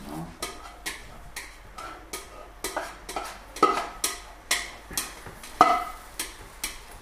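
A utensil scrapes around the inside of a pan in quick, regular strokes, about two per second, each a short rasping metallic swipe with occasional brighter clinks, with no talking.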